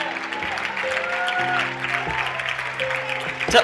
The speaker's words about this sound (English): Tell the neighbor standing behind you, your clapping is nice, but because there's no smile, it's not so great.